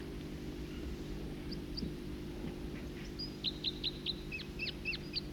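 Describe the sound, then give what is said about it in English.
A songbird, one of two singing from adjacent perches in different trees, sings a quick series of bright, high chirping notes, building into a rapid repeated phrase over a steady low hum of background noise, with a few faint calls earlier. “Two separate songsters and adjacent perches in different trees.”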